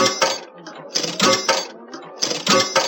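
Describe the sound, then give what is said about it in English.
Three coins being inserted into a 'kitchen sink' slot machine: bright, metallic clinking and jingling in several quick bursts, with short gaps between them, fairly loud and with no talking over it. “So we're going to insert, let's say, 3 coins.”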